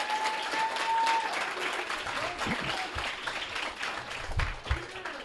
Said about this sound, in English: We're going to be recording the show tonight, both audio and video. So be very energetic. Clap a shit ton. Let's get the levels. Actually, everyone, some. Can we get a clap so we can check the levels? All right, awesome.